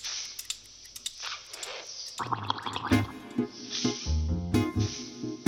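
Wet, gurgling bubbles pop and burble in a rapid, irregular stream, like air rising through water, soon joined by louder tonal, musical sounds that continue over the bubbling.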